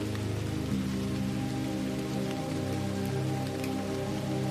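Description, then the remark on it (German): Heavy rain patters steadily on the rainforest canopy, a continuous wash of drops with a low, constant rumble beneath it and no voices. “Ein starker Regenguss prasselt auf das Dach des Urwaldes.”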